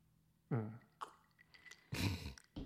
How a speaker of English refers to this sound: Let me sip a little bit more of this pineapple juice.